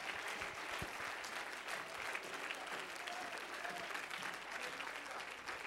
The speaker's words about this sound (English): Oh, if you love him, clap your hands unto him and bless his name.